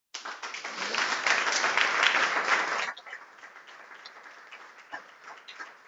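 Loud audience applause from a crowd for the contributors of Ràdio Ciutat de Valls, a dense wash of clapping for about three seconds that drops to softer, scattered claps and fades out.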